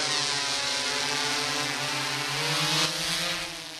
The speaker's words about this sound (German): Eine Drohne steigt auf und fliegt über dem Wald hin und her.